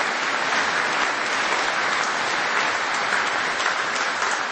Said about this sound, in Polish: Brawa ogromne dla księdza arcybiskupa, że przyjechał do nas tutaj z Ukrainy, z Lwowa.